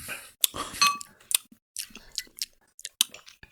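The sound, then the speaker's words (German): Two bottles of cider aperitif clink together once in a bright toast with a short ringing tone, followed by soft rustling and mouth sounds from drinking straight from the bottle. “dann Prost. Ja. Ah, aus der Flasche gleich.”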